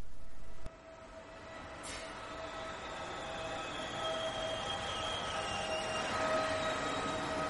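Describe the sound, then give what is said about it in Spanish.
A commuter train rolls steadily along the rails with a constant broad rumble, thin metallic whines and wheel squeal rising over it, growing a little louder toward the end. No voices. “Pienso en trenes de cercanías.”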